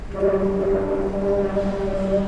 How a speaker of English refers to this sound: This is the New York Public Library. Yes, there are sounds in the library. It's the oak chairs coming in and out of those long oak tables when you sit down to do your work. So they slide across the terracotta floor, and they have that sound.